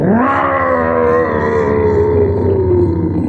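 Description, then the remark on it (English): A large hound snarls in one loud, sustained, throaty roar that rises sharply and then holds steady, with no one speaking, as it grapples with a man on dark ground and sinks its fangs into his right shoulder. “Warrior and animal roll and grapple on the dark ground. The sharp fangs of the hound sink deep into Wolf Angel's right shoulder.”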